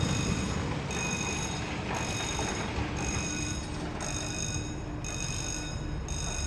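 A port crane's warning bell rings as the crane is driven forward or backward on a quay while unloading petroleum coke from a ship from the USA, bright high-pitched tones pulsing about once a second over a constant low mechanical rumble and rattle of machinery moving.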